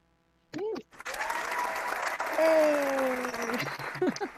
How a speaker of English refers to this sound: Yay. I'm experimenting with the sounds on the Google Hangouts on air. Were you able to hear the clapping? I was. I appreciate the standing ovation.